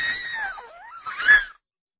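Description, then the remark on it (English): A single infant's cry, a wavering high-pitched wail that dips and rises again before cutting off abruptly after about a second and a half, clear. “I apologize. I do have an infant.”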